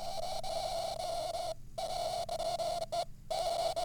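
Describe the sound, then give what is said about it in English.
A teapot gives off a soft, steady, hooting tone with faint overtones, holding one pitch with a couple of brief breaks, alone with no talking. “And my teapot's happy. It's making happy sounds. Listen to the teapot.”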